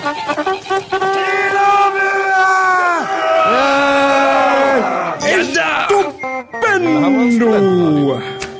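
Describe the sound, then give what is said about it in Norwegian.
A loud Lillehammer Student Radio station jingle fills the whole stretch, with voices singing long held, harmonized notes that shift in pitch, then slide downward in sweeping glides toward the end. “Nå avbryter du hele vignetten der igjen”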